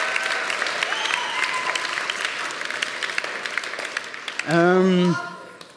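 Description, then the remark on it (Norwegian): An audience applauds the young church worship team, aged 13 to 20, many hands clapping in a dense, continuous patter. Near the end a single loud voice whoops over the clapping before the applause fades. “Ja, så det et spenn på 7 år, så til å gi dem en ekstra stor applaus.”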